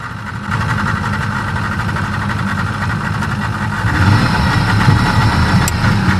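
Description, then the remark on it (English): A motorboat engine drones steadily, its low rumble and vibration continuous throughout, growing slightly louder and rougher toward the end as the boat gets underway. “And his instinct is to take this boat at this particular safe spot before it's too late. So now we're actually moving.”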